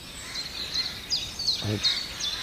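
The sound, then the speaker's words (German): A single short, harsh crow-like caw, a Eurasian jay's imitation of a crow, sounds once near the middle, set against repeated thin, high bird chirps and a soft outdoor background hiss. “Oh, ist doch keine Krähe. Das war eine Krähenruf-Imitation vom Eichel her.”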